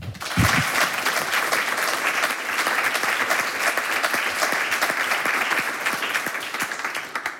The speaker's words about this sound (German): Einen dicken Applaus schon mal vorab.